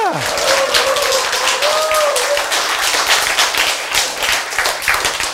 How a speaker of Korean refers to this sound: 여러분, 여러분의 이 박수는 생명을 위한 박수예요.